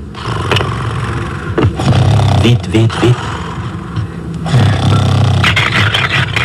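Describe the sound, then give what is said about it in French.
A door is forced open at night with rough, grinding scrapes over a steady low rumble, surging in uneven bursts, while a voice briefly urges someone on. “Voilà, la porte va bientôt céder.”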